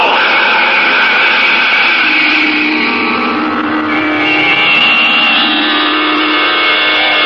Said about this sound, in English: Orders are snapped quickly. Controls are engaged. The ship begins to throb with the unleashed power of its rocket motors. And finally... Blast off, minus 5 seconds. 4, 3, 2, 1, 0!